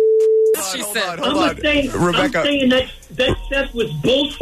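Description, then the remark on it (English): A steady, even telephone line tone of an incoming call hums for about half a second, then voices talk over the line, and the tone briefly returns at the very end. “Oh my God, is that him on the phone?”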